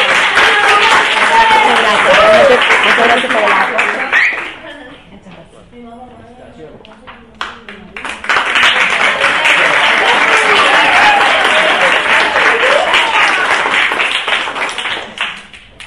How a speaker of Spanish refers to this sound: ¡Fuerte ese aplauso!